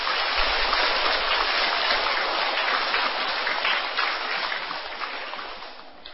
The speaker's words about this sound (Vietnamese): Nếu các con các cháu thấy việc làm này là có thể thực hiện được, hãy dành một tràng vỗ tay để cam kết.